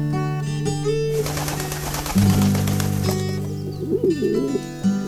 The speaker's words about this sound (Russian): А я не то, что птиц всегда любила, но вот под крышей песня голубина.